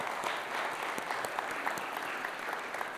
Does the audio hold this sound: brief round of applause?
yes